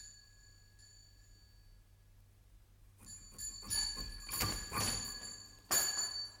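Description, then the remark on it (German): A pull-style house doorbell at a home jangles loudly in repeated bright metallic rings from about three seconds in, one evening in June 1889, with a second burst near the end, after a quiet low hum. No one speaks. “Eines Abends im Juni 1889, ungefähr um die Stunde, wo man gewöhnlich anfängt zu gähnen, wurde bei mir zu Hause die Glocke gezogen.”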